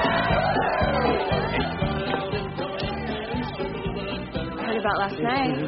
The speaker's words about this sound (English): Go face to the moon with a cowboy yell.